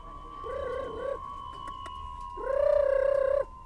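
Two soft, wavering coos from pigeons at a pigeon coop in an old hutong in Beijing, a shorter one followed by a longer, louder one, over a faint steady hum and light background rustle.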